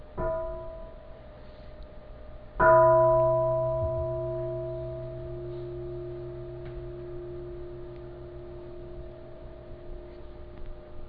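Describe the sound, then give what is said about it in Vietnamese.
A bell is lightly tapped, then struck firmly about two seconds later, its clear, steady tone ringing out and slowly fading over many seconds. No voices are heard. “Khi đang nghe thuyết pháp hoặc là đang giảng mà nghe tiếng đồng hồ hay là tiếng chuông điện thoại reo hay là nghe tiếng chuông, chúng ta dừng lại, thở vào và thở ra trong chánh niệm”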